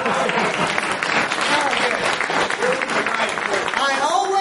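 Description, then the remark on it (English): A crowd applauds steadily for several seconds, a dense wash of clapping with scattered cheers and voices rising through it, staying loud from start to finish. “In the right crowd when that gets the applause line.”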